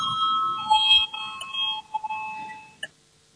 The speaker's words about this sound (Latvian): Lūdzu, zvanu, balsosim par septīto juridiskā biroja priekšlikumu. Lūdzu, balsosim.